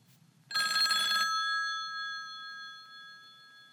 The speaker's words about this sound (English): Sounds one and two were telephones.